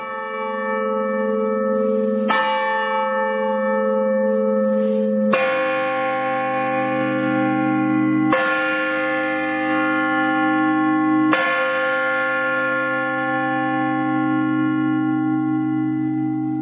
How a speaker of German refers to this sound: Und apropos hören, ihr könnt St. Marien und die Türme natürlich nicht nur sehen, sondern ihr könnt sie auch hören. Und das hier sind die Glocken von St. Marien.